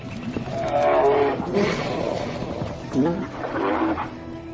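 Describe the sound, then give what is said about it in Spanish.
Deep, guttural roars and growls from grizzly bears, a young male and an irritated mother bear, clash back and forth in a loud confrontation, rising in bursts over about four seconds, with a narrator's voice speaking over them. “Un joven oso macho no es rival para una madre oso que se encuentra irritada.”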